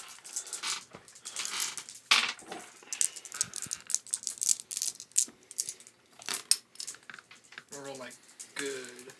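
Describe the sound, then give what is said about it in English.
Dice, including a white die and a red die, are rolled by several players and rattle and clatter across a hard surface in repeated bursts of sharp clicks, with a voice briefly murmuring near the end. “Everyone roll the dice for the aftermath.”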